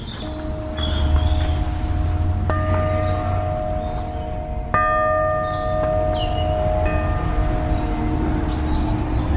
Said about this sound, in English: Above the church is a bell.